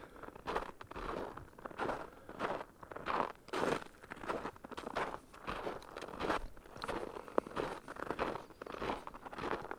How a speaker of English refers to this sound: As you hear now, it's much more pleasant to walk in the snow than on the hard-beaten ice.